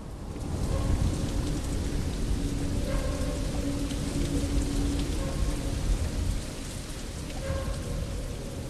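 Water drips constantly and spatters onto the concrete floor of a large pillared area in a run-down building with peeling, discoloured walls, in a steady, dense patter with a low rumbling wash underneath and no voices.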